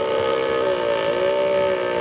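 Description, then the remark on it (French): A red deer stag, recorded in the morning north of Tours at Cérel, calls out in one long, sustained bellow, a loud tonal cry with rich harmonics and a slight waver in pitch, heard alone with no talking. “Alors je dirais que c'est un cerf”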